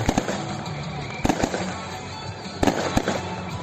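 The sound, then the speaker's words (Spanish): Fireworks and firecrackers crack and pop in quick clusters of sharp bursts, a few at a time, over a steady outdoor rumble of crowd and background noise, on the night of the San Juan festival in Spain. “Ni que decir tiene que esta noche se ha notado que había muchas ganas de verbena, de cohetes, de meigas y de hogueras en la playa después de 2 años de restricciones.”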